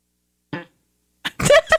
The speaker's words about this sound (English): Asking me for a lovely fart.